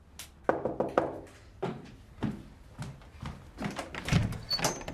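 The front door of a house being knocked on and handled, with a series of dull wooden thuds and knocks at irregular intervals, moderately loud, with no voices.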